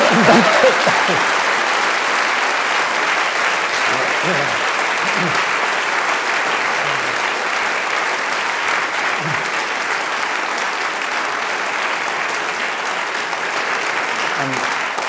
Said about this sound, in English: A round of applause for that, if nothing else.